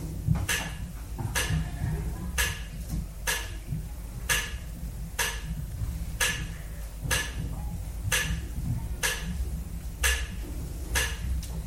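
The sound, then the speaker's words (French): A clock strikes twelve bright, evenly spaced strokes of midnight, roughly one per second, over a low rumbling background hum. “Après un long silence menaçant, l'horloge sonna les 12 coups de minuit.”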